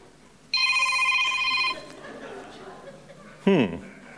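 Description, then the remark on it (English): A telephone rings once during a service in a bright, trilling burst lasting about a second, fairly loud, followed by a quiet stretch and a brief voice near the end. “Everyone, did you check your phones this morning?”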